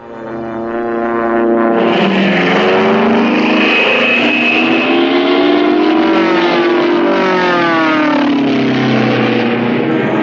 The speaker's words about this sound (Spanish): Veloces y fulgurantes aeroplanos cruzan los cielos. Como un enjambre metálico, los aviones de la Fuerza Aérea Uruguaya, provistos de un secreto militar único y preciado, surcan el aire diseminando su arma secreta.